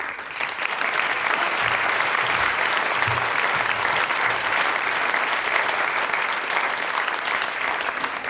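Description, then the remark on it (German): Sustained applause from a sizable audience, steady and fairly loud, a dense wash of clapping that holds for several seconds without pause, as the head of a cultural association in St. Gallen is called onto the stage. “Und ich darf jetzt den Chef des Kulturkreises St. Gallen auf die Bühne bitten, mit einem großen Applaus”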